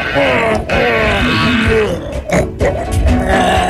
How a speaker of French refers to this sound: Vous n'auriez pas dû mettre votre masque avant de vomir, hein, vraiment? On dirait un cheval avec sa mangeoire sur le museau.